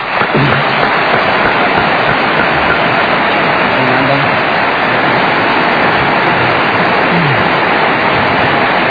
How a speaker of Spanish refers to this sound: Hemos resuelto invitar a mi gran amigo, el director y pianista, Federico Mizrahi. Vamos, Fede. Vamos a aplaudirlo.